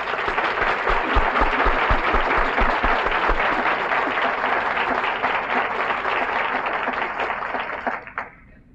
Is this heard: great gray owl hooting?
no